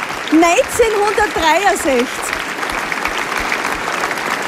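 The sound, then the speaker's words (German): An audience claps steadily, a dense, continuous patter of applause that carries on to the end. A voice speaks briefly over the clapping at the start. “Na, sehr gut. Applaus.”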